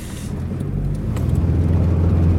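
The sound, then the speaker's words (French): A car engine runs steadily with a low, droning rumble, growing slightly louder as the vehicle drives along, continuous throughout with no voices. “Je vais peut-être aller faire un petit tour dans sa voiture.”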